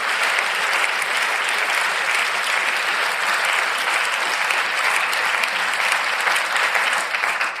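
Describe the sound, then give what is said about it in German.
Sustained audience applause, a dense steady wash of many hands clapping at an even, fairly loud level for several seconds, with no voices standing out. “Applaus.”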